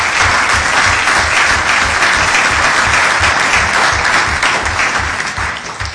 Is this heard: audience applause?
yes